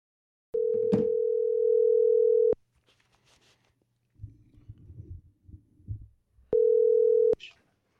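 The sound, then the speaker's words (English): A phone call ringing on the caller's end: a steady electronic ring tone lasting about two seconds, a pause with faint muffled noise, then a second ring that cuts off abruptly as the call is answered. “You answered the phone.”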